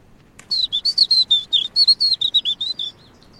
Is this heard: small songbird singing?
yes